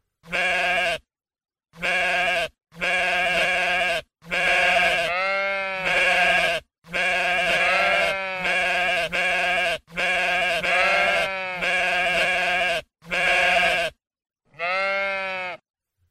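animal, sheep bleating

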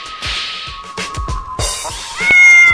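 animal, cat meowing

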